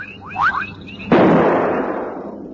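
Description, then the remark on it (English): A single loud rifle shot, fired at a lion, cracks out and rolls away in a long, fading rumble. A few faint, rising whistle-like tones come just before it. No one speaks. “Buzz, shoot. I can't see my sights too well.”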